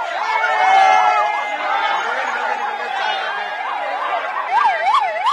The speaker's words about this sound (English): You've just heard the joyous cheers as ambulances whisked away the 41 Indian construction workers who were stuck for 17 days in a collapsed tunnel in the Himalayas.